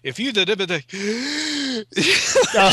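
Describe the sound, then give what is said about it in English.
A voice mimics someone gasping for breath: choppy voiced sounds, then a strained, drawn-out vocal note, ending in a loud, breathy rush of air. Fairly loud, with no other sounds. “Somebody that can take a Sorkin dialogue and not have to fucking gasp, take a breath in the middle of it.”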